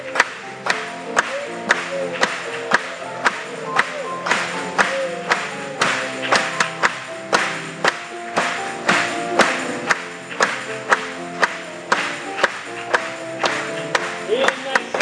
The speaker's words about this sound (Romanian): Hai să o aplaudăm lui.